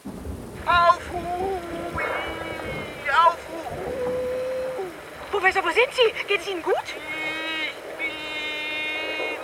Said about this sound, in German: Ist das Wind? Lassen Sie mich das Analyse-Tool aktivieren. In Kenntnisnahme aller bisherigen Faktoren liegt die Vermutung nahe, dass der Professor buchstäblich durch den Wind ist, also sich dort aufhält, wo ein sehr starker Wind weht.